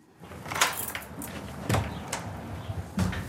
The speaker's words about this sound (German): Das ist die Tür, ganz fett, hier kann man sehen. Durch eine Panzertür mit zwei wuchtigen Hebeln geht es in den ca. 15 Quadratmeter großen Bunker.